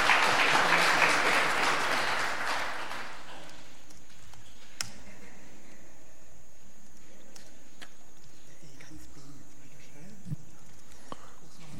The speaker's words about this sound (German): Ja, dafür auch einen Applaus.